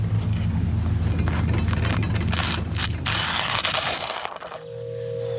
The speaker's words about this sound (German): Hörst du das? Das ist der Wind.